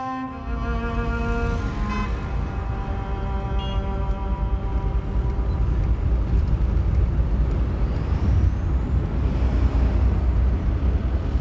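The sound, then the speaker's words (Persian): A car drives along with a steady, fairly loud engine and road rumble throughout, a brief whining tonal sound fading out in the first couple of seconds; no one speaks. “رانندگیت خوبه ها؟”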